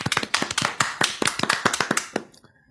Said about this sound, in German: Ich möchte bitte Applaus jetzt. Los.